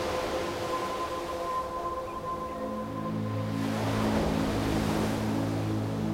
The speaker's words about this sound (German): und mit dieser Welle lassen wir uns ganz bis ans Ufer treiben. Sie schiebt uns an, wir liegen flach auf dem Wasser und gleiten, bis wir direkt an der Wasserkante liegen bleiben und die Welle zieht sich zurück.